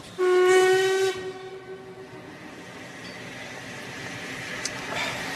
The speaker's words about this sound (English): Weren't we supposed to get that train? Was that the London train?